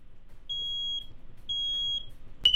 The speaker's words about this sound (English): Warning. Carbon monoxide detected. You got carbon monoxide.